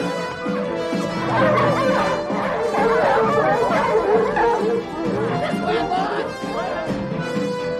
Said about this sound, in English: The dogs pull desperately on their leashes as they bark after Bill.